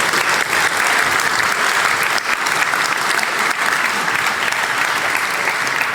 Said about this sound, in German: Applaus für die Cocktailbar.